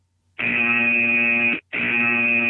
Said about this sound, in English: And if they get the answer incorrect, they will hear the basketball high school buzzer. Wow, that sounded terrible, didn't it?